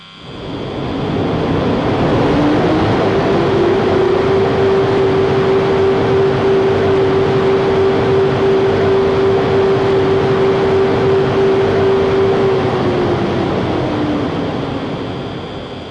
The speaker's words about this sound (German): Bitte steigen Sie ein. Ihr Zug fährt jetzt ab. Vorsicht an den Türen und bei der Abfahrt des Zuges.